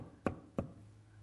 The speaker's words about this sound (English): Jesus is knocking at the door.